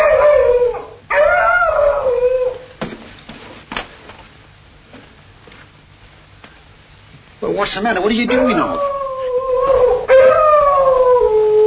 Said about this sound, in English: It's Drury's dog. Well, all right, so what? Hey, you're trembling like a leaf, you know. He's the only living thing I'm afraid of.